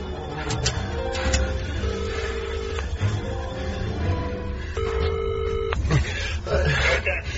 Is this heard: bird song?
no